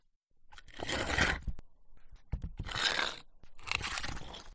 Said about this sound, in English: when I realise there's been a sound in the back of my head for quite some time. A dull, aching, persistent scraping sound.